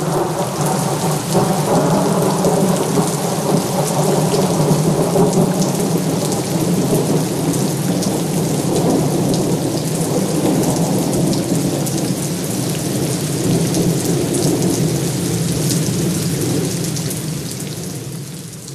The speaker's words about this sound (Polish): Od morza przyszedł deszcz, który przed godziną 19 rozpadał się już na dobre i zamienił w ulewę.